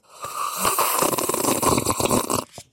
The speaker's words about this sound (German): Da brauche ich jetzt gerade einen Schluck Glühwein.